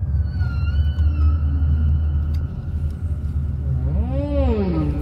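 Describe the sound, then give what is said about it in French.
Song of a humpback whale breeding off the coast of Colombia: long sustained tonal moans and rising-falling sweeping calls over a deep, steady underwater rumble, fairly loud and continuous, with no talking. “La baleine à bosse, dont je vous parlais déjà la semaine dernière, en train de se reproduire au large de la Colombie, elle fréquente aussi désormais le large de l'île de la Réunion.”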